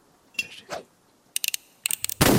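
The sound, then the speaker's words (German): Video game shots hitting bottles tossed into the air, aimed with the arrow keys and fired with the space bar: a few soft swishes, then quick clusters of sharp, bright cracks and clinks, ending in a louder, noisy shattering burst. No one speaks. “Guter Schuss.”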